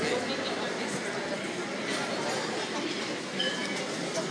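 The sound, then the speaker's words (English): Busy ambience in the English Market, an indoor food market: a dense, steady wash of overlapping indistinct voices and crowd murmur, with faint clatter and a few brief higher-pitched sounds rising out of the hubbub. “This is the market itself, the English market. Just have a listen.”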